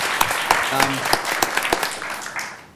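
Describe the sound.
A crowd claps steadily for a few seconds, dense overlapping handclaps with sharper individual claps standing out, fairly close and moderately loud, with a brief murmur of voices underneath.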